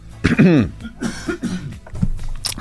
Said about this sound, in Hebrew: שאני עושה איזה שיעול.